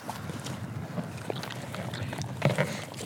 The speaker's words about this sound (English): They do like their extra strong mints. Really? And you'll probably hear the crunch.